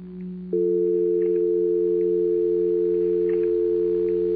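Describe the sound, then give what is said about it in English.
A steady telephone dial tone hums continuously, a smooth unbroken pair of pitches that swells slightly louder after a brief start and then holds evenly with no voices. “The soft hum of the dial tone that was always there.”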